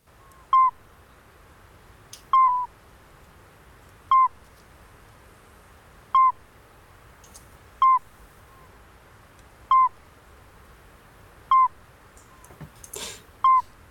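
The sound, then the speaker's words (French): A midwife toad calls alone, giving seven short, pure, bell-like peeps at a steady rhythm about two seconds apart, clear over a quiet night background. “Et par ailleurs, vous relayez une enquête participative sur le crapaud halite accoucheur. On va d'abord l'écouter, oui, car c'est assez surprenant.”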